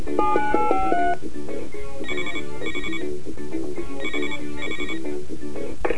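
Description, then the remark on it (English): A telephone rings with a bright electronic tone: a short stepping melody first, then repeated pairs of chirpy rings with brief pauses between them, fairly loud over a faint background. “Where will you call next?”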